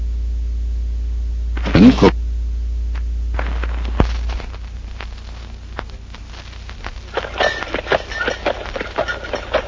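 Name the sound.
horse hooves clip-clopping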